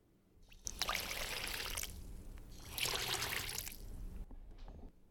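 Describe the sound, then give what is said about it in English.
Tonic water is poured over ice into a martini glass in two bursts, each a bright, hissing fizzy rush lasting about a second, with a faint trickle and small drips between and after. “Filled with ice and top. You're rudely interrupting me. And top with your tonic water.”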